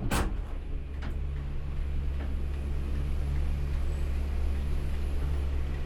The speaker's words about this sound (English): This one is from some trips around Switzerland in 2008 inside various railways, cable cars, chairlifts, that sort of thing.